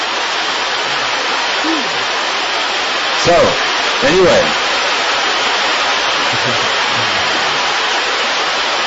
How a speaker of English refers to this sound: Can you still hear? Još uvijek čujete? Yeah? Wow, it's really raining, huh?